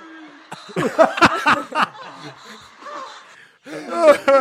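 Breathy, wordless erotic vocal moans and sighs, played in place of Christmas carol melodies, rise and fall in a few drawn-out bursts, with sharp gasping intakes between them, moderately loud.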